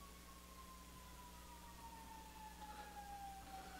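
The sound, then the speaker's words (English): An ambulance siren drives past outside, its steady wailing tone slowly sliding lower in pitch as it moves away, over a constant low indoor hum. “As we watch the ambulance drive by outside.”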